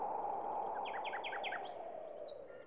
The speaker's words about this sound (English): the singing of birds, the patter of rain. All of these sounds are parts of nature's music.